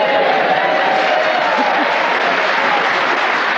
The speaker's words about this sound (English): And you can hear that we have a fine, warm, receptive Hampshire audience ready to cheer us on our way as we begin the show this week with Paul Merton.